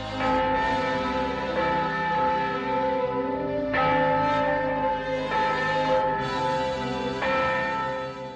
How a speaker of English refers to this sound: the nun crosses herself and rings the bell, and Scotty walks out of the bell tower